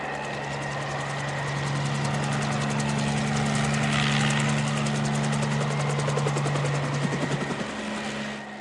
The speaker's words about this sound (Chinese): 朦胧中，他仿佛听到有直升机的螺旋桨声在风雨中由远至近而来。